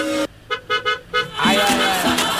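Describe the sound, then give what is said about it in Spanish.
A bus horn honks in a quick series of short, bright beeps, followed by a longer, wavering blast as voices chatter loudly. “cuando se ven en la ruta, en la calle, ¿se tocan la bocina o no?”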